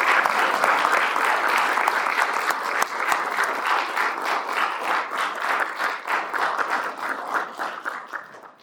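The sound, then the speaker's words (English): A crowd applauds a speaker steadily with dense, overlapping claps that hold strong for several seconds, then gradually thin out and fade toward the end. “Let's give another round of applause for our very special speaker today.”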